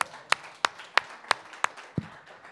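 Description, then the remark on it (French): A single pair of hands claps in a steady, even rhythm, about six crisp claps in quick succession, moderately loud, ending with a duller thump, with no voices. “Oui, je vous applaudis.”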